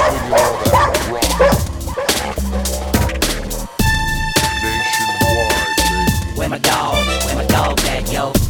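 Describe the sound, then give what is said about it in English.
Red nose pit bulls bark repeatedly and aggressively over a heavy, pounding music beat, the barks loud, overlapping with sustained synth tones in the middle. “True red nose pits, straight killers from the hood.”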